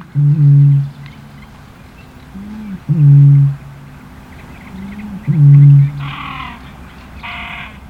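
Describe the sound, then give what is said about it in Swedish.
A Eurasian bittern booms in the reeds of a lake three times at a slow, even pace, each deep, hollow hoot low-pitched and loud, with softer twittering from other birds near the end. “Har du hört rördromens mäktiga stämma när den tutar i vassen?”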